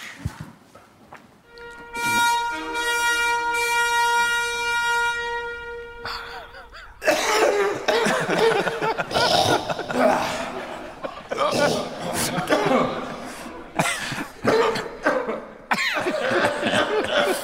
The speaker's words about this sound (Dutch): Hij moest hoesten, hè? Hij hoestte toch nog weer. Dat is een beetje vervelend natuurlijk.